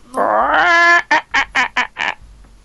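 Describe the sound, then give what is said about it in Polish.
A person imitates a hen clucking: a drawn-out rising squawk followed by five quick, evenly spaced clucks, loud, with no talking around it. “Ja mogę dodawać jeszcze gdakania, chcecie, żeby było wiadomo, że ja mówię.”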